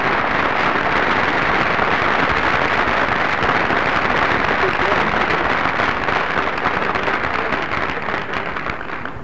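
A crowd applauds loudly and steadily, a dense wash of many hands clapping at once that holds at full strength for several seconds before thinning slightly toward the end.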